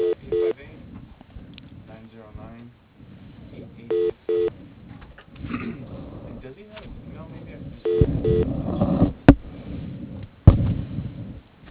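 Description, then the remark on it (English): Someone switches telephone handsets over a phone line: short bursts of keypad beeps, rustling and fumbling, then a couple of sharp, loud clunks as the receivers are handled. “I'm gonna just Okay. switch to another phone.”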